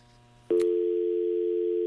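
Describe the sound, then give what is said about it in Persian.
A steady, loud telephone tone cuts in abruptly after a brief click halfway through and holds continuously to the end, with faint background hum before it, as the first caller's line disconnects on a radio call-in program. “تلفن نفر اول قطع شد.”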